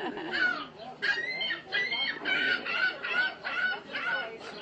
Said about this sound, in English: Well, that seagull's very vocal. Yeah, they are.